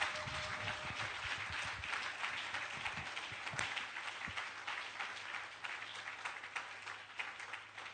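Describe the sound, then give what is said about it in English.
A church audience at Jubilee House claps hands steadily for the full eight seconds, a dense, loud wash of overlapping claps with a faint low hum underneath and no voices. “Oh, clap those hands.”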